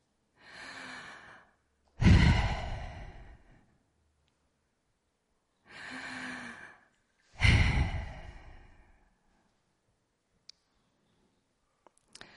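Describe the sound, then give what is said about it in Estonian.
Two slow, deliberate breath cycles, inhaling and exhaling to show the breathing that the pronunciation of the holy name Yahweh imitated; each a soft airy inhale followed by a louder, rushing exhale, with quiet pauses and a few faint clicks at the end. “See on sissehingamine ja väljahingamine.”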